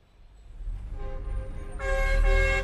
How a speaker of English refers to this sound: Spend some time in a smoggy Beijing traffic jam, and Chinese President Hu Jintao's promises of a cleaner, greener future seem to be coming from some other planet. Every month, 30,000 new cars hit Beijing's congested streets.